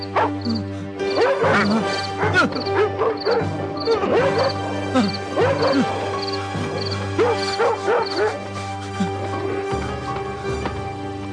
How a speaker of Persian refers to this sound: از اینجا دور شوید، از اینجا دور شوید، سگ‌های وحشی، دور شوید، دور شوید.